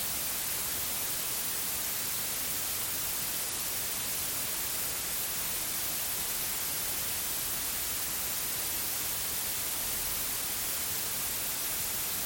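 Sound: white noise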